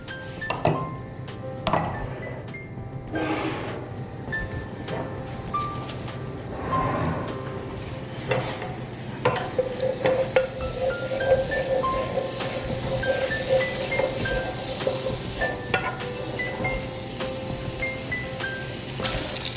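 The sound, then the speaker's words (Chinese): Chili oil, put into a pre-heated wok, heats with a steady, low hiss and faint crackle, broken by a few light metallic clinks of utensils; no one speaks. “然后我们先烧热锅子，先把红油放在锅中，我要把它加热。”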